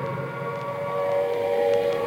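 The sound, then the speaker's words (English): Air raid sirens wail steadily over Trafalgar Square, London, on 24 August 1940, a sustained, slightly rising tonal drone with layered harmonics that swells gently in loudness over a couple of seconds, with no talking. “The noise that you hear at the moment is the sound of the air raid sirens.”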